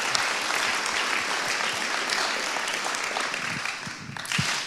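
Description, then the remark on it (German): Sustained applause from a church audience for the church leadership, a dense, steady wash of many hands clapping at an even level for several seconds, with a few sharper individual claps standing out near the end. “Wollen wir der Gemeindeleitung kurz mal einen Applaus geben?”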